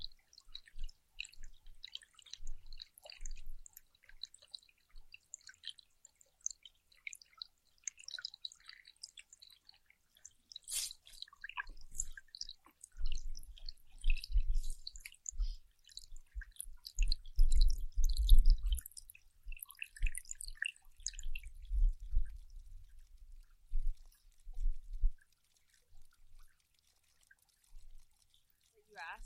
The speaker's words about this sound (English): Water sounds. Yeah, there's some water sounds.